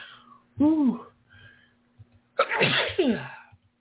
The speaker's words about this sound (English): And hold on, I gotta sneeze.